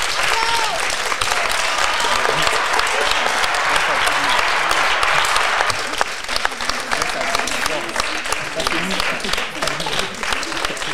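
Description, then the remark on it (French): A group of classmates gathered around a table applauds steadily for about eleven seconds to congratulate them, a dense, even patter of many hands clapping at once with no voices standing out. “Et on va profiter du fait que vous soyez tous là, réunis ici autour de la table, pour que vous puissiez bénéficier, on va dire, des applaudissements de vos camarades qui sont ici présents, qui vont vous féliciter.”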